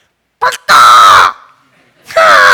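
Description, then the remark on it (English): A person voices a crow attempting to imitate a dove, with three loud, harsh squawks: a short clipped caw, then a long strained one, a pause, and another raspy cry starting near the end. “He's doing his best dove impersonation. Sounds nothing like it, right? After his alarming call, I thought it was rather soothing.”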